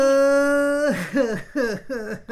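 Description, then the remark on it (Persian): A long, steady wail breaks into three or four wavering, downward sobs, loud, like someone whimpering and crying in short rhythmic bursts with no words spoken. “خود چرا گریه میکنی؟ گریه نکن دیگه.”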